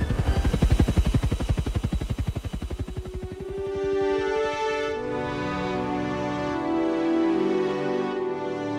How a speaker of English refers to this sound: The evac helicopter started making its way up and out, the two men trailing behind like sinkers on a fishing line. And then it proceeded to get the hell out of there, about as close to the speed of heat as a shot-up helicopter could go.